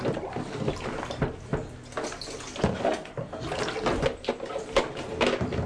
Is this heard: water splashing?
yes